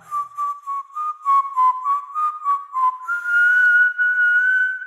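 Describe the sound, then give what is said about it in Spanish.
Someone whistles a tune, starting with a string of short, bouncy notes before settling into a long, steady held note that drifts slightly upward. No one speaks. “Silba y ríe.”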